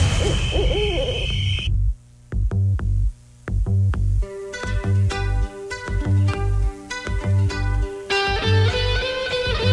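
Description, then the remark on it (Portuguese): An owl hoots over a low rumble for the first couple of seconds in the Rádio Povo 'Povo Coruja' station ident, then lively music with punchy drums and bright, bouncing melody takes over. “Povo Coruja.”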